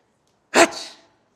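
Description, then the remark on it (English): A single sneeze imitated by a voice, fairly loud: one sharp explosive burst followed by a short breathy, hissing tail that fades within half a second, with silence around it. “the Khalifa sneezed.”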